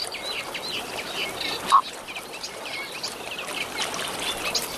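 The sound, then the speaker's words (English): Steady running water trickles and babbles continuously, with a soft outdoor hiss and a few faint, scattered bird calls in the background. “We're not getting any booms at the moment. We're just getting running water.”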